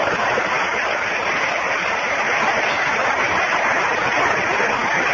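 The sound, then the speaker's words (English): Sustained applause from a sizable crowd for a speaker's oratory, a dense, steady wash of many hands clapping at once, fairly loud and even throughout with no voices rising above it. “And he has had us all tantalized with his oratory, and I'll tell you, give him another clap for that. Give him a clap.”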